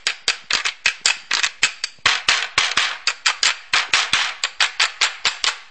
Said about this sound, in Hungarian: Igen, akkor kell egy szamár, és nem is olyan nehéz ezt beszerezni. Sőt, a határon nem nagyon szeretik beengedni ezt a hangszert, mindig csodálkoznak, hogy hát mi ez. Nézzük meg, hogy a szamár állkapocs hogy hangzik.